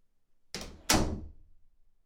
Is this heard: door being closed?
yes